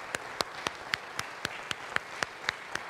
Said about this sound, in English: Let's give them a round of applause this morning as we think about those.